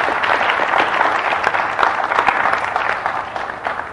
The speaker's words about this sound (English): First, I'd like a big round of applause because this is something that I think we can all learn from and all derive hope from.